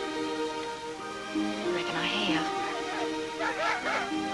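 A pack of hound dogs chasing a fox bays, several long, wavering howls overlapping and rising and falling in pitch against a steady background hum.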